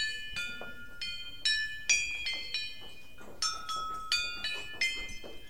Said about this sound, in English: who came up with the idea of a musical chair, an old office chair transformed into several instruments. We've got some chimes around the back, which is